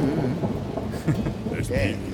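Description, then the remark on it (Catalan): A montage of steady rain hissing alongside deep, rolling thunder that rumbles continuously, with a few brighter crackles breaking through, loud throughout the short stretch. “Aquí un muntatge de pluja i de trons i de tot.”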